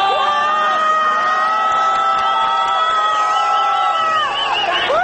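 A loud crowd of street protesters boos and jeers continuously as riot police on motorcycles pass, many voices holding long drawn-out hoots that overlap and waver in pitch, with shouts rising briefly near the end.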